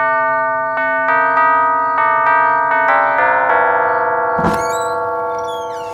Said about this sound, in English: Well, here we are. Shall I ring the bell?